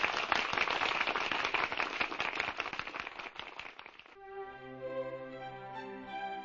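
A crowd claps for the cast of characters at the end of a radio play in a dense, steady round of applause for about four seconds, then it cuts off as a sustained musical tune begins and carries on to the end.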